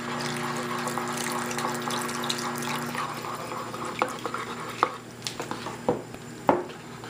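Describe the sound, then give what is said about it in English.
Water pours steadily into a gravy pan for a few seconds with a hissing splash, being added to make more gravy, then gives way to a handful of sharp metallic clinks and taps. No one speaks. “I think we're gonna need a little bit more gravy in there, so I'm gonna go ahead and add just, and the gravy really depends on how much gravy that you want in there.”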